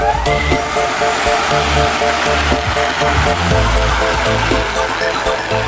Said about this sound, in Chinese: 天刚亮，顺风的无人机已载着樱桃启程。